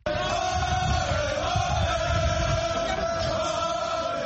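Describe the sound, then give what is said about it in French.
A huge crowd gathered at Ousmane Sonko's home in Dakar roars and shouts victory cries, welcoming him after the announcement of his release, a dense, continuous, loud wall of cheering voices for the whole stretch. “C'est avec des cris de victoire qu'Ousmane Sonko a été accueilli par une immense foule qui a convergé vers son domicile dès l'annonce de sa libération.”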